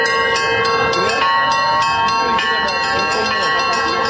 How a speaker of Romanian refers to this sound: participanții la acțiunea de pichetare au cântat într-una imnuri religioase, acompaniați de dangătul câtorva clopote mai mici, aduse pe umeri de participanții la protest.